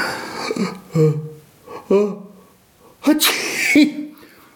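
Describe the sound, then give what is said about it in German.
A theatrical sneeze: a few halting, breathy build-up gasps followed by a sharp, loud hissing burst and a short trailing tail, seemingly acted out by a voice. “heiser und musste niesen.”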